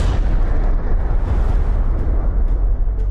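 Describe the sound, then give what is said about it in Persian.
A deep, continuous rumbling roar from the explosion of the first atomic bomb in New Mexico, USA, as in the film Oppenheimer, loud and heavy in the low end, sustained without pause for about three seconds with crackling texture throughout. “جی رابرت اوپنهایمر ملقب به پدر بمب اتم در لحظه انفجار اولین بمب در نیو مکزیکوی آمریکا شعری از بهاگابات گیتا حماسه معروف هندیان را نقل می کند.”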